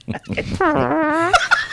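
Brief talk gives way to a loud, drawn-out buzzy fart with a wavering pitch, lasting under a second and ending in a couple of short squeaky bursts.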